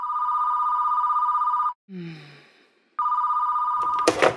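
A telephone rings loudly at home at 9:15 on a Tuesday morning in a sustained electronic trill, pauses while a brief lower tone sweeps down, then rings again before a short rustling clatter, as if the receiver is picked up.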